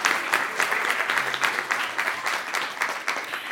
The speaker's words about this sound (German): Ich finde, das verdient einen ganz großen Applaus für unsere Kinder.